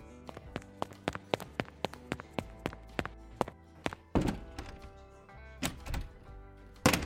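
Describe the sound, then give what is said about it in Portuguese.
After the doorbell rings, a girl runs to open the door: a quick, even patter of running footsteps approaches, then a louder rattling clunk like the door being opened, followed by a couple of heavy thumps. No one speaks. “Ela saiu correndo para abrir a porta.”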